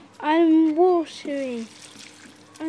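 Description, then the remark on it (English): Water splashes and trickles steadily from a watering can as carrots, cabbage, tomatoes and beans are watered, while a voice makes drawn-out sung or hummed sounds over the start of the flow. “there's water in the watering can.”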